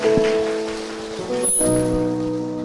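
Loud, sustained applause, a dense crackle of many hands clapping without a break, with steady musical tones holding underneath throughout. The audience applauds long and loudly to thank a Buddhist singer after a song.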